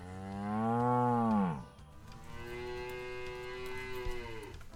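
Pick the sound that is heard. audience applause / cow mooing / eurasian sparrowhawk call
cow mooing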